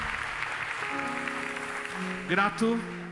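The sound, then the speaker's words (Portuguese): An audience at an evening worship celebration claps to applaud the Lord in a steady, dense wash of applause while sustained keyboard notes swell underneath, and a voice briefly calls out near the end. “Vamos aplaudir o Senhor que está aqui presente neste lugar, nessa celebração e nesta noite.”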